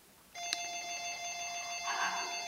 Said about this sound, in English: sorry about that, Roger's getting a bunch of phone calls today.